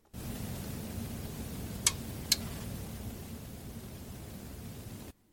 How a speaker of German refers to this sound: Das klingt wie Regen. Ja, das Rauschen ist ein bisschen lauter. Rauschen, ja. Ja, es geht eigentlich um dieses Klickgeräusch, dieses... Wenn etwas nicht richtig über den Äther geht, wenn eine Störung ist.